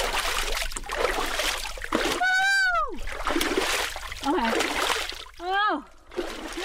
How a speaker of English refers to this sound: I look at the cold plunge tub with trepidation and decide to try just a little splash of ice water on our face and hands.